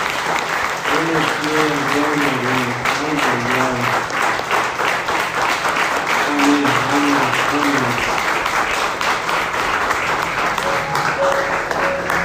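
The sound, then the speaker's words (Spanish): An audience applauds God steadily for about twelve seconds, a dense, even wash of clapping with faint voices and a few sung or called-out tones rising through it. “Un aplauso a nuestro Dios por su poderoso.”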